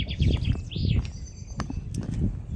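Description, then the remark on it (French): Water laps in soft, irregular splashes over a steady low rumble, while a few high bird chirps and tweets break through now and then. No one speaks. “Ah, on entend un peu plus le clapotis là, ça vaut le coup.”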